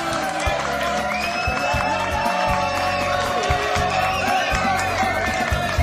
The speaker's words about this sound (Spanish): Un aplauso bien fuerte.